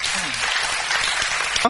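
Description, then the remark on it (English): An audience at a bilingual English and German church service claps steadily together to give the Lord a hand after a prayer for healing, a dense, continuous wash of applause with a brief voice rising out of it at the very end. “Praise God. Give the Lord a hand.”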